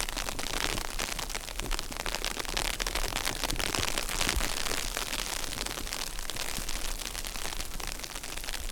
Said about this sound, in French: Il pleut sur un tapis de feuilles et de neige qui fond.